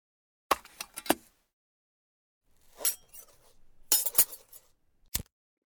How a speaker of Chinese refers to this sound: 你应该听出来了吧，我的左手正拿着一个打火机，而我的右手拿着一根细长的银针。